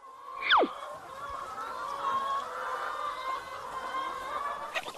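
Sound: chickens clucking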